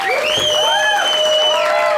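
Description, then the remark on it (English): A comedy show audience claps steadily and loudly for the comedians, with whistles and rising whoops cutting through the dense applause for the full two seconds. “Hey, keep it going for Courtney and Donnie, everybody.”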